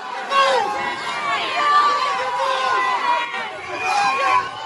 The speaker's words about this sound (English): So they're shouting, the protesters are shouting, mafia, mafia, just as Muscat is leaving his office.